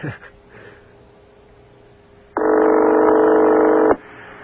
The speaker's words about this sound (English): This sounds like it's going to be picked up. There's a very authoritative sound to it. I've got a friend who has a ring like this. Well, not that exactly like that, but it just is not stable. It goes... Sounds like a car starting up.